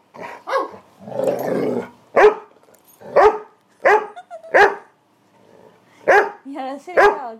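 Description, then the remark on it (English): A dog barks repeatedly, loud, sharp yaps coming in irregular bursts with short pauses between them, and a rougher, growly stretch near the start. “You're such a silly dog.”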